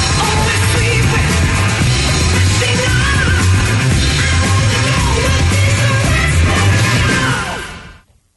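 A loud, dense rock song plays with driving drums and distorted guitar while a high male voice wails a drawn-out, yelping refrain over the top before the music cuts off abruptly.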